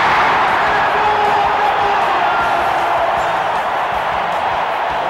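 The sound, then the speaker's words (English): A large arena crowd at an NBA game roars and cheers continuously, standing and waving their arms for Kareem Abdul-Jabbar to get the ball, a dense, loud wall of voices that stays steady for the whole stretch with no single voice standing out. “The crowd stands for Kareem to get the ball. Everybody's waving their arms.”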